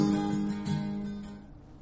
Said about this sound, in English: Oh, the bees or something today. Got bumblebees or carpenter bees or something flying around all over the place.